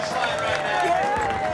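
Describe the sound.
A steady, dense wash of audience applause and crowd noise runs throughout, loud and continuous, with voices calling out over the clapping.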